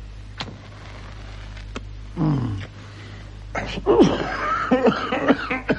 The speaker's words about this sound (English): Care to join me in a cough?